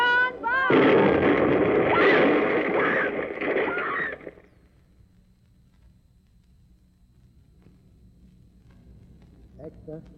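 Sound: bomb explosion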